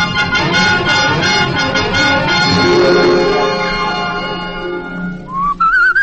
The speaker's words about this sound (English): cut out that whistling. But it's my favorite tune, boss.